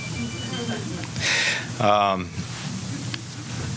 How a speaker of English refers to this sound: Cell phones are great, aren't they? Mine vibrates in my pocket.